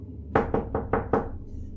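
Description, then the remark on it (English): Five firm knocks on the front door of a room on a cruise ship in a quick, even rhythm, clear, with a low hum underneath and no voices. “I was watching TV, that's when I heard knocking on the front door.”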